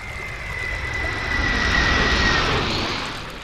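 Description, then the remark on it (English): A steady, roaring airplane jet engine drone, made as a repeating sound-effect loop, with a thin high whine running through it, holding at a constant loud level with a slight swell in the middle, no voices present. “Sound effects designers for games or movies may decide to create a loop of a jet engine, which they can then repeat for as long as the airplane is either in flight or on the runway.”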